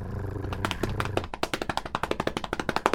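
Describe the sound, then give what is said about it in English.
A quick drum roll of sharp, evenly spaced percussive taps that start sparse and then speed into a steady rattling stream, over a low hum at first, with no voices. “Our next story is... Drum roll.”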